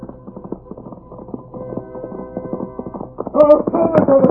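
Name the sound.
horse galloping hoofbeats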